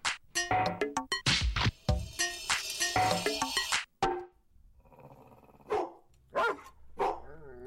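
Dogs bark loudly in rapid, overlapping bursts for several seconds, then the noise drops away, leaving a few scattered single barks against a quieter background.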